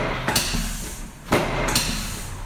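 Three sharp wooden thumps from the drop section of a Thompson chiropractic bench snapping down during a chiropractic adjustment, irregularly spaced over a low steady hum, with no one speaking.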